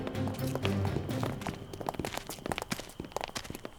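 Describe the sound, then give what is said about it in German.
Footsteps walking at a steady, slightly uneven pace, with sharp distinct steps, as a person walks ahead and opens the door of a plant nursery. A low droning tone sits underneath at first, then the steps carry on alone. “Lenny schritt voran und öffnete die Tür der Gärtnerei.”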